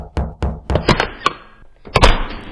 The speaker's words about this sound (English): You knock on the door and a woman answers.